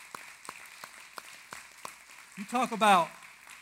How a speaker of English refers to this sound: In fact, let's just give single moms and dads a big hand clap, because I'm telling you what.